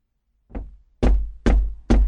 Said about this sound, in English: Early the next morning, the fisherman went to the priest's house and knocked on his door.